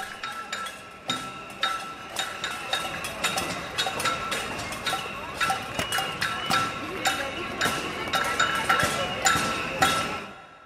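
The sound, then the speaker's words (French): Pots and pans being banged with spoons by many people at once in a street protest in Argentina: a dense, irregular clatter of ringing metallic strikes that overlap continuously and stay loud for the whole stretch. “C'est les concerts de casseroles dans les manifestations argentines.”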